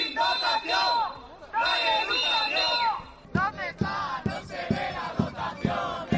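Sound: protesting students shouting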